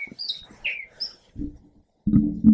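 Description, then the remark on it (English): Several high, quick bird chirps and tweets ring out, followed by a few lower, droning coo-like calls. “Just listen to the birds, man.”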